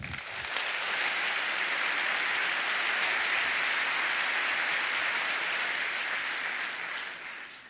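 An audience applauds steadily for several seconds to welcome the next speaker of a talk on RFID key access systems, a dense wash of many hands clapping that swells quickly at the start, holds full and even, then tapers off near the end.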